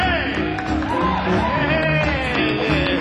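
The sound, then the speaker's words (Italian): An audience cheers loudly and steadily for about three seconds, with overlapping whoops, shouts and rising yells above a dense wash of applause, greeting a man introduced as the king of the radio. “Let's give him a round of applause, huh?”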